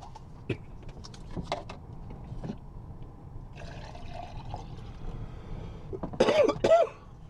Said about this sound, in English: Yeah, I mean, excuse me, I've got a frog in my throat. I've got a bit of a cough, so you're going to...